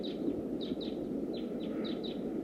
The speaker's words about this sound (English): It's recording. The decoys are calling loud. There must be some wild birds flying around.